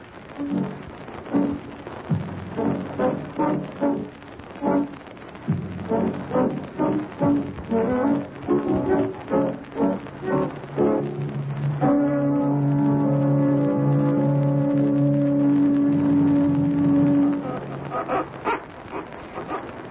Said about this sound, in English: Like a rusty hinge.